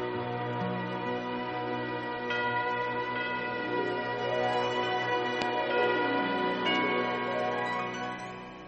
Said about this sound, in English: The sound reached his ears above the sounds of the wind, and he stood there listening to the bells, Adeste Fidelis, listening to the bells, pealing the glad tidings of Christmas, and he sank to his knees in the snow.